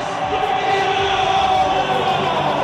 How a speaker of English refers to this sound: The 4,000 Spennymoor fans away to our right are just cheering loudly. And now Spennymoor Town are crowned FA Bowls Champions 2013.